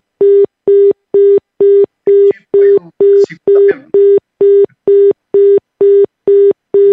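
A telephone out-of-service signal: a steady, evenly spaced series of about fourteen loud mid-pitched beeps, with faint, muffled voices briefly underneath partway through.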